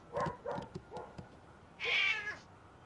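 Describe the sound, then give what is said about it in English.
A cat meows several times in quick short calls, then lets out one longer, higher, drawn-out meow, fairly loud with no talking. “I kick out cat if you don't like.”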